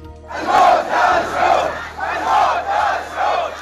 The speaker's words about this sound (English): A crowd of protesters in the Saudi Arabian village of Al-Awamiya chanting, "Down with the Saud, death to the Saud," after today's beheading of a prominent Shiite cleric, Nim al-Nimra, and 46 others convicted of terrorism by Saudi Arabia.